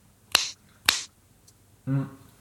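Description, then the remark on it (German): Two crisp, sharp finger snaps about half a second apart, each a bright click with a quick fade, followed by a brief voiced sound from someone. “Das ist Schnipsen.”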